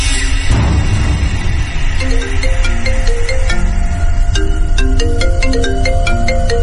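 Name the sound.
mobile phone ringtone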